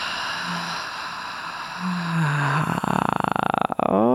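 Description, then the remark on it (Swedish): A long, slow breath pushed out through the mouth during a guided breathing exercise, after a deep breath in through the nose, airy and steady, turning into a rough, fluttering rasp toward the end before trailing off. No talking. “Och så andas vi långsamt ut genom munnen.”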